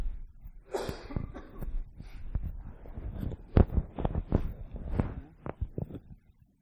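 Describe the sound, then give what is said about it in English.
A run of repeated coughs and throat-clearing sounds, fairly loud, with sharp bursts spread irregularly over several seconds and breathy gasps between them. “So 2 Corinthians chapter 4, and I'm going to take a cough break just for a second.”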